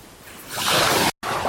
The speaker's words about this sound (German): Nichts Schöneres als das Meer rauschen zu hören, oder? Das ist so toll. Es ist heute ziemlich wild. Sonst ist das nicht so wild.